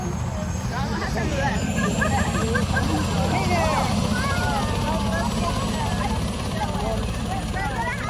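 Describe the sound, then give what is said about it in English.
A helicopter carrying Bill Nye descends from the sky and lands, its steady rotor roar with low, rapid thumping filling the scene, while a cheering crowd murmurs and calls out over it throughout. “Watching Bill Nye descend from the sky in a helicopter and hop out in a tuxedo to a cheering crowd was definitely a highlight of the evening.”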